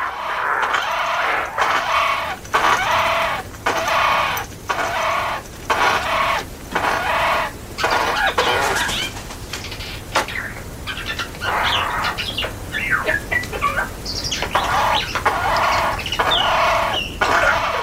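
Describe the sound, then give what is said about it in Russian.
A Eurasian jay mimics other sounds: a quick run of rhythmic, clucking bursts gives way to varied chattering and squeaky notes, fairly loud, with no one talking. “Сойка является своеобразным чревовещателем среди птиц.”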